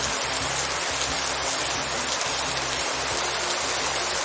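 Steady rain falls continuously under a grey sky in the municipality of Diemelsee, a dense, even hiss filling the scene, with a faint low rumble underneath and no voices.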